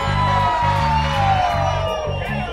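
A loud, dense crowd at a live concert cheers and whoops continuously, with scattered shouts rising above the roar and a rhythmic low thump pulsing underneath.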